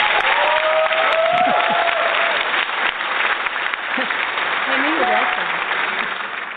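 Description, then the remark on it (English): Sustained applause from a crowd fills the whole stretch, a dense, steady clatter of many hands clapping with faint voices and cheers mixed in underneath. “Give her a round of applause, guys.”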